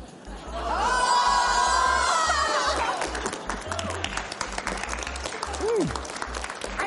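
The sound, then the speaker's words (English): An audience bursts into sustained applause, dense clapping along with cheers and whoops, a high rising shout over the first seconds, continuing loudly for several seconds. “So one more time, a big round of applause.”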